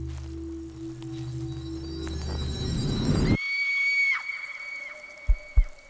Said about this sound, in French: Soudain, j'entendis un hurlement de douleur.